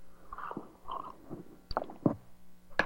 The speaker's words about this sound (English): Okay, I need a quick sip of something here. Hold on.